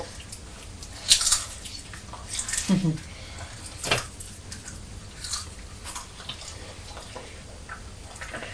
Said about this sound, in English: I can hear you crunching on those crisps.